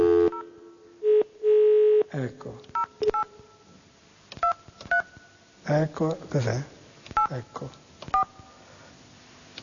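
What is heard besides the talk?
telephone keypad dialing tones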